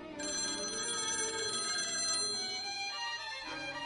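A telephone bell rings loudly and continuously, a bright metallic jangle that keeps going for several seconds, with no voices.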